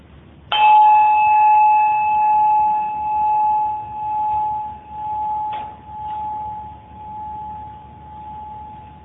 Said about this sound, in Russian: Каждый раз, когда я буду сейчас бить колокольчик, попробуйте примерно оказаться в этом состоянии, а сидеть можете так, как вам удобно.